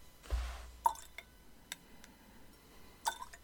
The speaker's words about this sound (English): Let that settle in a little bit. I love it when we add water to the whiskey and it never seems to take anything off the color.